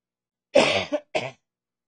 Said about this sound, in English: Well, I'm not coughing as much, but I am losing my voice.